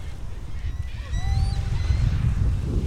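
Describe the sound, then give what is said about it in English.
Dozens of gulls call on a sandy beach at a U.S. Fish and Wildlife Service refuge in a loose chorus, a few overlapping high, nasal cries and short squawks rising and falling over a steady low rumble of wind or surf. “And dozens of gulls.”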